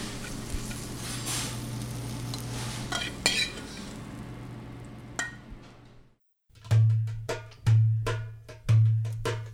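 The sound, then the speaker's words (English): A utensil stirs and scrapes mushrooms through sizzling butter in a hot pan, with a steady frying hiss, then a short pause followed by several rhythmic scraping strokes against the pan. “And really, we're just stirring it until the butter is incorporated to the mushrooms and just kind of coats the mushrooms.”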